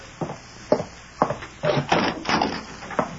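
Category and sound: household object, door being opened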